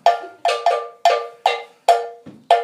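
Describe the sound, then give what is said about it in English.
A metal bell plays the main bell part of Adawa, a drumming piece from the Shenta tribe. It is struck in a repeating syncopated pattern, about seven bright, clanging hits that each ring and fade quickly, played alone with no voices. “This is our main bell part.”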